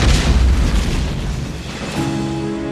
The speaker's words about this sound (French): Elle pourrait avoir été causée par l'électricité statique accumulée, il y avait de l'orage ce soir-là, et le fait de jeter les cordages d'arrimage au sol aurait pu déclencher une réaction électrique. Boum !